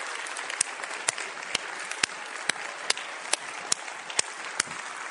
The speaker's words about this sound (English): I think we should celebrate this by a wonderful round of applause.